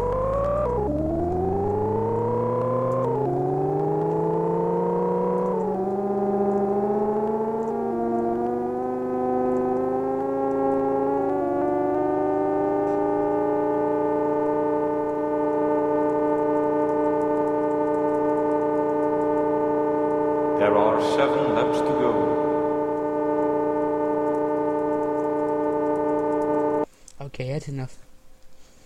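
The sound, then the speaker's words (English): A racing video game car engine revs up at the start of a race after a 3, 2, 1 countdown, in a series of rising, stepped pitches as it shifts gears, then settles into a steady, loud, buzzing drone with a brief rattling burst near the end. “Start your engines.”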